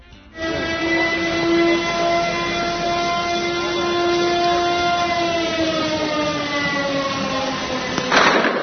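A loud police siren holds a steady, droning tone for several seconds, its pitch sagging slightly near the end before a brief burst of noise, early in the morning in northern Kosovska Mitrovica as the ROSU special police unit arrests four Serbs. No voices are heard.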